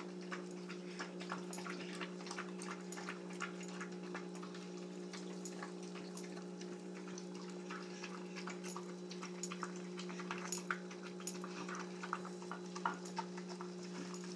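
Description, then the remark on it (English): A dog eats chicken broth and rice from its bowl: rapid, irregular crunching and clinks keep up steadily over a constant low electrical hum, with no one talking. “This bowl will be clean within 30 seconds.”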